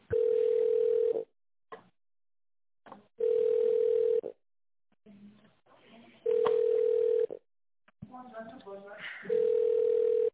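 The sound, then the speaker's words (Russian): A telephone ringback tone while a call is being transferred to a manager: four steady one-second beeps, repeating about every three seconds, clear and loud, with faint muffled voices and line noise in the gaps between them. “Давайте сейчас перейду на менеджера.”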